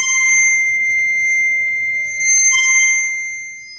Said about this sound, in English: use a little bit of rosin, which is what violinists use on their bow, to create friction, we can move our hand along the rod to create this beautiful sound. And we can sustain that sound by moving back and forth, or we can make it really loud.